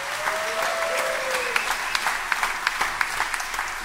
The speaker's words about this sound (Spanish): Fuerte aplauso.